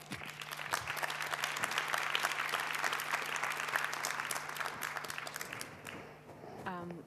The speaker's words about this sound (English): A warm applause.